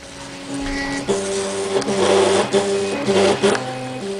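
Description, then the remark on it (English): An open-source RepRap 3D printer runs, its stepper motors whining in shifting tones with mechanical whirring and clicks. Steady and moderately loud for the whole stretch, with no voices. “He's the inventor of an open-source 3D printer called RepRap, an example of technology that could transform manufacturing industry into cottage industry.”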